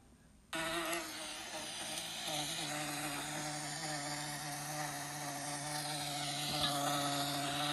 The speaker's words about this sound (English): Do you want to hear what an angry wasp sounds like? Let's do it. All right, let's see what an angry wasp sounds like.